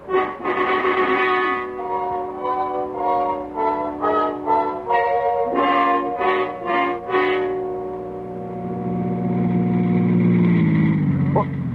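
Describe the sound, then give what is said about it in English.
A car engine hums steadily with pulsing, uneven revs as it moves slowly through an alley to park, then a deeper, louder rumble builds toward the end as the vehicle maneuvers. “There are usually no parking places on the street, so I leave the car here and go in the back way.”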